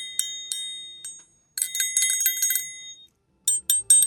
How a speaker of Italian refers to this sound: Questo è quello semplice, triangolo, proprio triangolo normale.